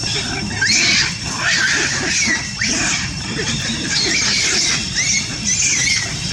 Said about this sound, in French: Des cris de macaque, car c'est en étudiant le cerveau de ce singe que des chercheurs américains auraient découvert, alors je mets des guillemets, la zone de la conscience dans le cerveau.